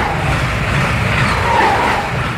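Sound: passing train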